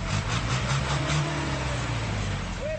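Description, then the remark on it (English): Busy city street traffic in Nairobi, Kenya, with vehicles jostling for space and belching dark smoke: a steady, loud wash of engine rumble and road noise from many vehicles, with a deep motor hum throughout. “As other vehicles jostle for space while belching clouds of dark smoke in the streets of Nairobi,”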